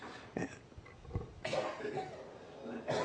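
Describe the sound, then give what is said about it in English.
Several rough coughs, about three separate bursts spread over a few seconds, not loud, with no talking between them, at the close of an evening city council meeting in Goleta. “I promise not to cough next time.”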